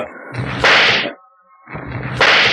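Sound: gunshots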